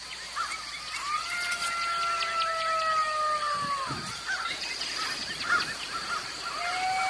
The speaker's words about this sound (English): But we videotape gobblers strutting in the trees. Listen to this.